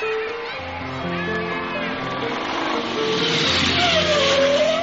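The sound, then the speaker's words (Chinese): A mother's motorcycle engine rumbles at a steady, fairly loud pitch as it rolls up to the small parking lot by a school's east side gate, with a brief rising squeal near the end like brakes bringing it to a halt. “妈，你停摩托车要干嘛？”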